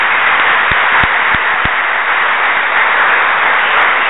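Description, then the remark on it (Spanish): A church audience applauds the Lord during a sermon on Jesus' resurrection, in a dense, steady wash of clapping that holds at an even, loud level throughout, with a few sharper thumps standing out early on. “Otro aplauso al Señor, porque, oiga, Jesús, María y José.”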